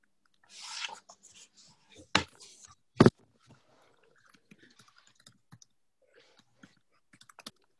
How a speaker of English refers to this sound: You're all furiously typing.